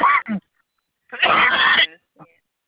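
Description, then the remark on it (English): A person coughs from smoking: two quick rough bursts, a pause, then a longer harsh, raspy cough and a faint final catch of breath. “I don't have COVID. I'm just coughing because I'm smoking.”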